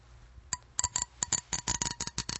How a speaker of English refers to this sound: So for my first sound, this is going to be just a simple comb.